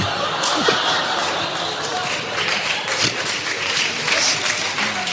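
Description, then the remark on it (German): A crowd claps steadily throughout, a dense crackling wash of applause with a few sharper bursts, filling the whole stretch without pause or any clear voice on top. “Die Leute klatschen.”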